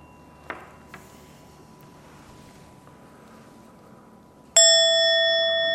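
A single loud gong strike rings out after a few quiet seconds, its bright metallic tone sustaining and slowly fading. A couple of faint taps come earlier, and no one speaks.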